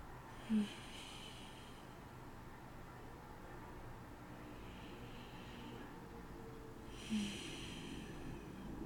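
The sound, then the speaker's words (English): Slow, deep breathing: soft airy inhales and exhales repeat in an unhurried rhythm, roughly three breaths over nine seconds, quiet and hissy, with a couple of brief nasal snorts and no talking. “And we'll breathe together, okay?”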